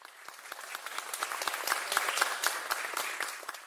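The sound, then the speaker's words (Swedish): A hand-clapping sound effect: a burst of many dense overlapping claps forming steady applause that swells slightly in the middle and continues without any voices. “För i så fall kunde vi ju få lite klappande händer eller något nu.”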